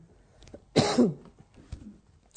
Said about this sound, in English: Excuse me a minute. I don't know where these coughs have come from. We've all got one, haven't we?